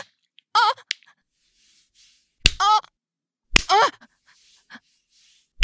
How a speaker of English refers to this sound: On my ass. Yes. Spank me.